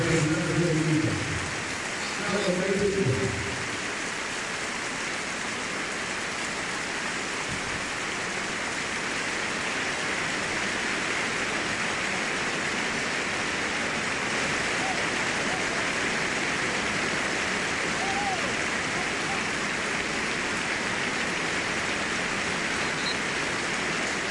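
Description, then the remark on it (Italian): Sustained, dense applause from the whole stadium at an Atalanta football match against Fiorentina, following a minute of silence in memory of Mino Favini, Atalanta's historic director and talent scout. A steady roar of clapping barely rises or falls. A voice is briefly heard over it at the very start. “Applauso di tutto lo stadio.”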